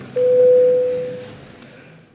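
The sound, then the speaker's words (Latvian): A single steady electronic signal tone sounds for about a second, clear and fairly loud, then fades out over a faint background hum. It is the voting bell in the Latvian parliament, rung to call deputies to vote on a proposal. “Lūdzu zvanu.”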